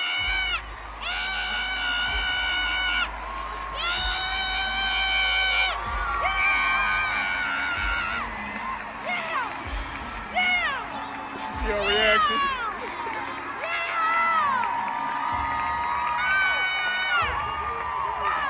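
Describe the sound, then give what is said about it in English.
A woman fangirling at a concert shrieks and yells excitedly in long, high-pitched bursts, loud, over the roar of a cheering crowd. “I've never yelled like that at a concert.”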